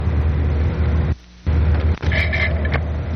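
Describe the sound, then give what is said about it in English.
A moving ferry boat's steady, loud mechanical rumble with a deep droning hum; the noise drops out briefly, then returns with a faint high whine layered over the din. “I don't know what that racket sounds like. The ferry boat is moving.”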